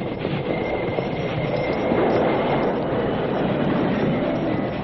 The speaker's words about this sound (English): Stop that train!